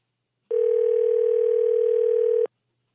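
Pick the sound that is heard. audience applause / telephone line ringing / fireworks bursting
telephone line ringing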